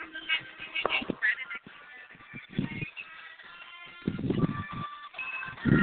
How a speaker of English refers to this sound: And you can hear that fight song right there in the background.